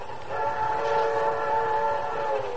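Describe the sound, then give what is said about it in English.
A streamlined train speeds toward New York City past midnight with a steady rumbling roar, its horn sounding one long sustained chord throughout, loud, with no voices. “Our story really begins quite innocently on a streamlined train speeding toward New York City.”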